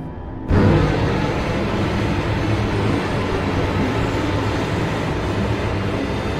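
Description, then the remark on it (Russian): The wheels of train number 6, speeding through the steppe, roll on the rails with a loud, steady, rhythmic rumbling roar that begins abruptly and continues unbroken as the carriage sways and shudders, with no voices. “Колеса мерно перестукивались, вагон покачивался и подрагивал.”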